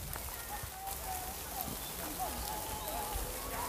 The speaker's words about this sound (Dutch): Het gaat heel erg hard regenen nu. Oh jee. Misschien horen jullie het geluid wel in de bosjes.